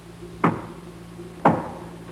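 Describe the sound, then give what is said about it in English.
Two distinct knocks on a door, spaced about a second apart, each a sharp woody thud with a quick decay, against a quiet low hum. “That knock.”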